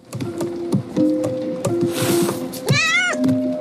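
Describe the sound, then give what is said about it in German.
A small black cat meows in an animated film, a drawn-out wavering cry near the end, amid a busy layer of soft clicks, tones and rustling film sound effects. “Allen voran eine Katze, die bei einer Flut in einem Boot mit anderen Tieren ums Überleben kämpfen muss.”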